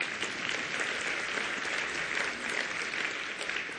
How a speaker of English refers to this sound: Yes, you can applaud Jesus.